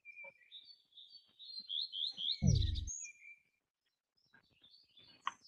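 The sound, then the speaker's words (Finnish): Birdsong twitters in quick, high chirping phrases in the background, with a brief low thump partway through and a few scattered ticks afterward; nobody speaks. “Toivottavasti tämä linnun laulu tässä taustalla ei ketään häiritse, että se ei ole liian kovalla.”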